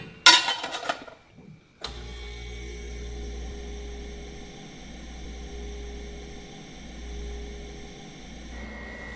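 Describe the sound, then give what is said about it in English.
A few clicks and handling knocks, then a freeze dryer kicks on abruptly and settles into a steady, loud, droning hum with a deep low rumble and faint whine, running continuously to the end. “So we'll use these metal ones from the freeze dryer, but also I need to turn the freeze dryer on.”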